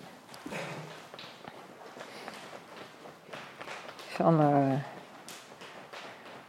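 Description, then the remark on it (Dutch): Steady, soft rhythmic tapping on the leg just below the knee, a quick run of muffled pats repeating, with a person speaking briefly over it. “Dus dan kan je op deze manier, net onder je knie, kan je loskloppen. Maar je kan het ook, als je dat wil, met je handen doen.”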